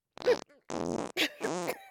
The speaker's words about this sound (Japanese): おなら？